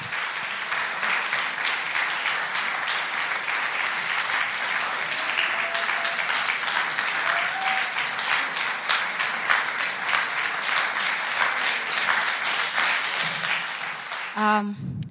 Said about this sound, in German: Und deswegen möchte ich nur euch auffordern, mit einem ganz dicken und warmen Applaus begrüßt bitte den Chor aus Bulembo.